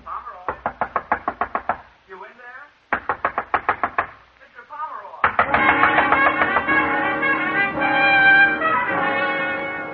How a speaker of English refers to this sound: The bellboy out there pounding on the door.